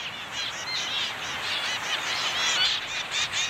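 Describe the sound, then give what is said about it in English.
Calls of male zebra finches, tiny Australian songbirds with smoky gray heads, stubby red beaks, orange cheeks and black and white tails, fill the air in a busy, overlapping chatter of short nasal chirps and beeps, like a small flock, steady with no talking. “Andrews in Scotland studied male zebra finches, tiny Australian songbirds with smoky gray heads, stubby red beaks, orange cheeks, and black and white tails.”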